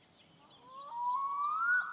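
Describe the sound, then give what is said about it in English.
A melodic, siren-like tone glides slowly upward in pitch and swells louder over a couple of seconds, with faint, fluttering high chirps above it and no voices. “Do you hear that? That beautiful, melodic siren song you heard returns, but this time you're ready.”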